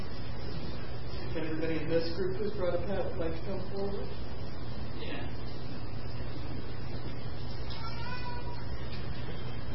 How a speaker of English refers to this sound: This is Harvey. He's from Germantown. He's raised as a farm cat, and he's probably about 6 or 7 years old, and he cried like that at the door when we were leaving, so that's why he came along.